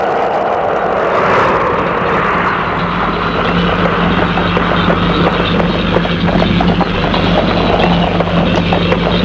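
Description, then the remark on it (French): Horse hooves clip-clop at a steady walking pace as a woman brings her horse in through a gate on a windy day, over a constant low rumbling drone that fills the background throughout. “Et la fait rentrer avec son cheval.”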